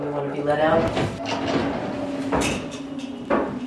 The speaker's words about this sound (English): The door slides closed behind me as I walk into a 10 feet by 12 feet gray cell. It's got a toilet, sink, and a wooden box for a bed.